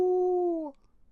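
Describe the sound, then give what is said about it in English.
A person imitates a coyote howl: one short, steady vocal note lasting under a second, sliding slightly downward as it fades, with quiet around it. “Then he looked up at the big cheese in the sky and howled, "Ow!"”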